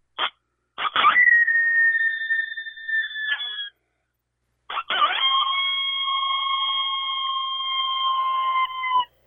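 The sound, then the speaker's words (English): Two coyote howls blown on a small Delrin predator distress call under an inch long, each opening with a few sharp yips before sliding into a long, steady, high-pitched wail with a brief pause between them. “And just to show you the range it has, I'll do a howl with it also, and like I said, it's a little distress call, but you can actually howl coyotes with it also, and I'll do a demonstration of that right quick.”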